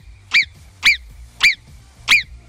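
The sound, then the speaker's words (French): Four sharp, high-pitched imitated marmot whistles, given as the answer to a Radio Mont-Blanc call, repeat at a steady pace about half a second apart, each a loud, piercing chirp with no talking around them. “Il faudra, quand je vais vous rappeler à 9h30, nous faire le sifflement de la marmotte.”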